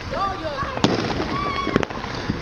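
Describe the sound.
Two sharp bootleg firework bangs crack out about a second apart, mixed with high whistling streaks, over a steady outdoor hubbub of voices on July 4th.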